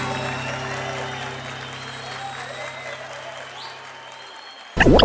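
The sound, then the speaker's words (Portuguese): A crowd applauds and cheers steadily for about five seconds, a dense wash of clapping with a low hum underneath, before a sudden louder burst of sound cuts in at the end. “Senhoras e senhores, muito barulho pra esse cara que merece muito.”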